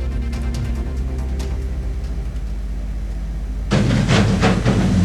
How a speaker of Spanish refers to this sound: Está explotando. Esa fue la explosión de la cámara